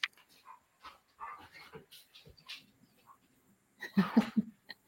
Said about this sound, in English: Excuse me one second, I have a barking dog here.